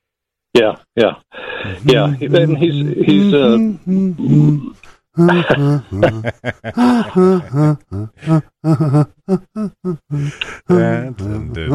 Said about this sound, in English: Yeah, and he's I'm just saying I'm humming with this. Or yeah, go on. I just wanted to hum a little song from childhood.